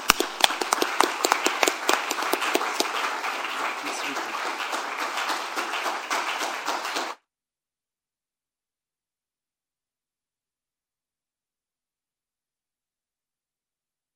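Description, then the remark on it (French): An audience at a church service breaks into steady applause for about seven seconds, many hands clapping densely, with a brief spoken word near the start before the clapping stops abruptly into silence. “Et nous pouvons les applaudir.”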